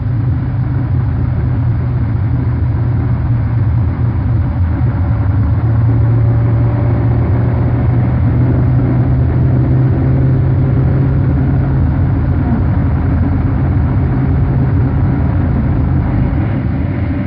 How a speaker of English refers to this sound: Watch the kilometers an hour speedometer as he's accelerating from 168 mph to 186 mph to an incredible 199 mile per hour.